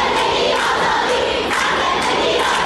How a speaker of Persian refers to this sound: علارغم این سرکوب شدید، خیابان‌ها شلوغ هستند و صدای شعار قطع نمی شود. تجمعات محدود به مناطق مرکزی شهر نیست. اینجا غرب تهران است، سردار جنگل.